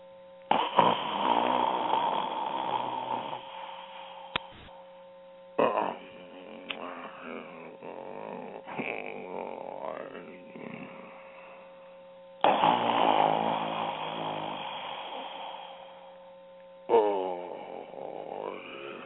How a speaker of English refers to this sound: Awakening in the middle of a prodigiously tough snore, Scrooge felt he was restored to consciousness at the right nick of time